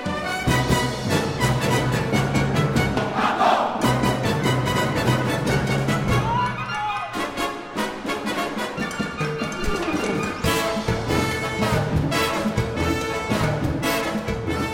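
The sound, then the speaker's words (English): A full youth orchestra plays its signature encore, a loud, driving mambo with sharp percussion hits and brass, while brief group shouts burst out over the music a couple of times. “news stories never failed to mention the orchestra's signature encore, Leonard Bernstein's Mambo from West Side Story”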